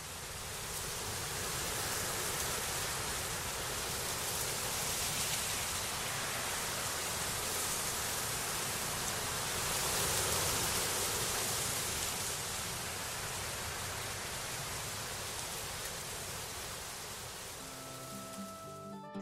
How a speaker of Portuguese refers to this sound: Agora continua o silêncio, porque a gente vai ouvir a força de uma ventania nas árvores da Mata Atlântica. Escuta só.